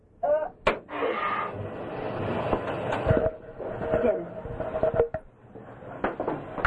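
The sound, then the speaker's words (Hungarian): A washing machine starts up, a steady mechanical rumble and whir with sharp clunks and clicks scattered through it, and faint voices murmuring in the background. “Beindítottuk a mosógépet.”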